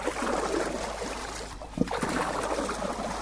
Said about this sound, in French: En pirogue, nous quittons le port pétrolier à destination de l'île Bongosua. La rivière est stable, il faut 7 minutes pour ramer de l'autre côté.